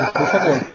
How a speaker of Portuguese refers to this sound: Saúde para quem espirrou aí.